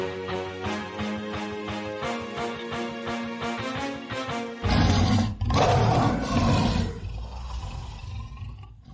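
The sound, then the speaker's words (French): A short rhythmic musical sting gives way to a loud lion roar that rumbles for about three seconds before fading out, with no one speaking; a segment sound effect introducing the Lion d'Or segment. “On est rendu, je crois, au Lion d'Or et on s'en va.”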